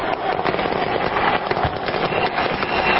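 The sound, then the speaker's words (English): Dozens of armed men fire automatic rifles into the air in tribute at the Makata as Yasser Arafat's remains arrive for burial, in dense, overlapping bursts, a continuous rattling crackle of many rapid shots with no pause and no voices heard. “Then the shooting began, with dozens of armed men firing automatic rifles into the air in tribute.”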